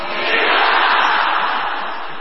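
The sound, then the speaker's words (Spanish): A group of voices shouts the rallying cry "Viva el León de Francia" together, testing the acoustics of the place, merging into one loud, steady roar that holds for about two seconds without a break. “Vamos a probar incluso la acústica de este lugar pegando algunos gritos del orden de Viva el León de Francia.”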